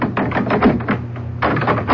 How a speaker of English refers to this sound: Miss Jane must see for herself what has for so long been hidden on the third floor of Thornfield Hall. Grace Poole, unlock the door.